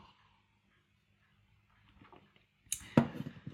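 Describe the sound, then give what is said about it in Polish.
Quiet at first, then soft handling noises and a brief slurp of coffee from a cup, followed by a sharp clink as the cup is set down, with faint rustling after. “Muszę łyknąć kawy, przepraszam bardzo.”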